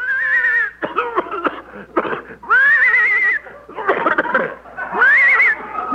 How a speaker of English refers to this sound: I think the horse is horse.